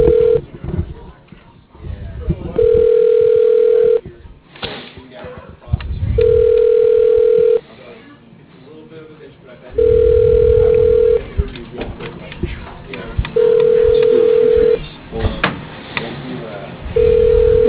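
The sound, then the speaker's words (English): An unanswered outgoing phone call's ringback tone repeats five times, steady beeps of a second or so separated by pauses. Muffled background voices and noise fill the gaps between rings. “I'm probably not going to get anyone this time. This guy never answers the phone.”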